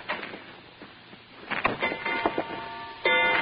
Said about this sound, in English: I thought at first I'd set off a new polite kind of burglar alarm, but it was only a grandfather clock tolling out 10 p.m. as the moonlight bopped me smack in the kisser.